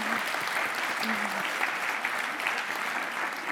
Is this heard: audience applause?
yes